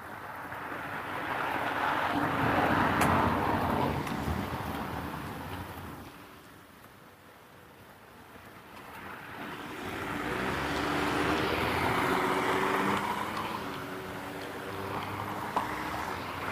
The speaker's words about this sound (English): Busiest intersection on my walk. Two cars this morning.